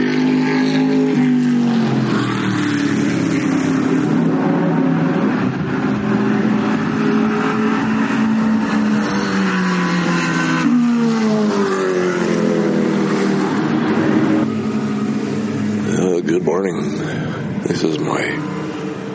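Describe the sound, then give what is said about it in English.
Race car engines rev and roar continuously as the Formula Classic race starts up just after 10 a.m. on a Saturday morning, their pitch sweeping up and down in overlapping waves as several motors accelerate and ease off, loud and steady throughout with no pauses. “on the Saturday morning, and the Formula Classic race is starting up, but there are races all day today and all day tomorrow”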